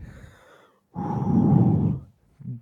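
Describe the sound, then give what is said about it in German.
Heavy breathing: a shorter breath, a pause, then a long, loud, rasping exhale lasting about a second, followed by the start of another breath. No speech. “dieses Atmen, dieses schwere Atmen.”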